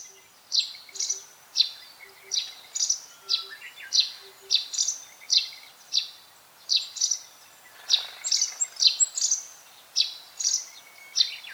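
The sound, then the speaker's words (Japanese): A russet sparrow calls with a steady series of bright, high chirps, roughly two per second, clear against a quiet background, with no voices. “スズメは身近な町の中や農耕地に多い鳥ですが、乳内スズメは森の中で生活している、いわば森のスズメです。”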